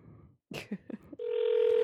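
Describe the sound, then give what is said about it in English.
A phone line ringing: after a few short muffled bumps and clicks, a steady, fairly loud ringback tone starts and holds unbroken to the end. “Oh, it's ringing. One ringy dingy.”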